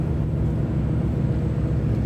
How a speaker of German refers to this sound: Und jetzt hört man auch den Motor, so ein bisschen die Turbine, die Maschine der MS Drotten von Hansa-Linien. Und wir haben gerade am Überseehafen in Rostock abgelegt und bewegen uns jetzt langsam, aber sicher Richtung Ostsee.